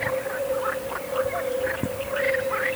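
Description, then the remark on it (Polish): A dense amphibian chorus of frogs and fire-bellied toads in shallow, warm water on an evening at a nature festival: a steady, low hooting drone of the toads runs throughout, overlaid with repeated chirping and croaking frog calls in an irregular, overlapping rhythm. No voices. “Mieliśmy suszę hydrologiczną przez marzec i kwiecień, a tu nagle koncert żab i kumaków.”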